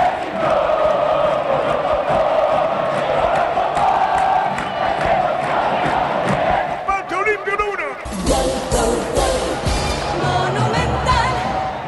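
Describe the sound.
A stadium crowd roars and cheers for Olimpia's equalizing goal in a loud, sustained wall of noise, with a voice cutting through briefly before the roar surges again with sharper shouts and whistles.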